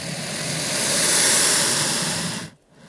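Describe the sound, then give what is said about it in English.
An animal in a swamp, reacting to a microphone waved in front of it, gives a loud, forceful snort that runs into a long, breathy hiss with a vibration in it, sustained for a couple of seconds before cutting off abruptly, with no talking. “And it responded with a loud snort followed by this hissy noise.”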